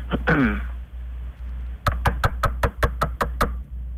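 A rapid run of about nine sharp, evenly spaced knocks on a door, fairly close and loud, with a brief squeaky sound before them and a steady low hum throughout.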